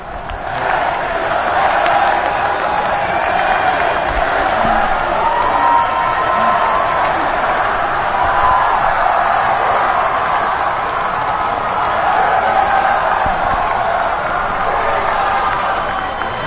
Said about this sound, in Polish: No i teraz chciałoby się razem z młodymi zakrzyczeć: niech żyje Ojciec Święty, witamy Cię wśród nas.